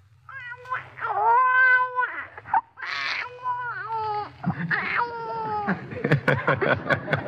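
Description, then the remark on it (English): A voice imitates a newborn baby crying: thin, strained wails rising and falling in short bursts, breaking into sputtering, choked coughs toward the end. Fairly loud, with no other talk. “A newborn baby is very weak and can't do anything much but just cry and sputter and cough a little, like this.”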